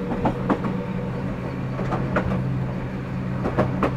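A local electric train nears its terminus, Dentetsu-Toyama station, on a commemorative run for retiring cars 14722 and 172. It rolls along with a steady low hum and motor drone, broken by sharp rhythmic clacks of wheels over rail joints in loose pairs, without any voices.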